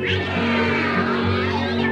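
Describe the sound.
A voice imitates a cat with one long, loud, drawn-out meow that rises and falls in pitch over a steady sustained background tone.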